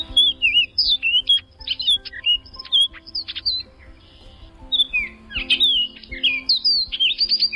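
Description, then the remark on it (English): An orchard oriole (Icterus spurius) sings a rapid, clear, somewhat robin-like whistled song of varied slurred notes, bursting in lively phrases with a brief pause midway, loud over a low background hum. “There's the clear, somewhat robin-like, whistling song of today's featured feathered friend, Icterus spurius, the orchard oriole.”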